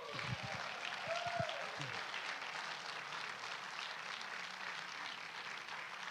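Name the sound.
audience clapping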